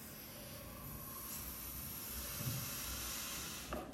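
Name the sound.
blowing up a balloon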